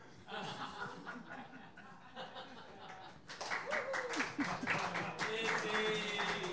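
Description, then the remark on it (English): An audience laughs and chuckles, then breaks into a burst of steady, dense clapping that grows louder and carries on to the end, with some voices mixed in. “Don't clap, that just encourages me.”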